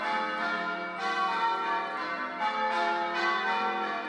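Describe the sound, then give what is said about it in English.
Church bells ring out steadily, fresh strikes landing every second or so over the long, shimmering hum of earlier peals. The ringing is loud and full, with no voices. “I'm going to watch those bells.”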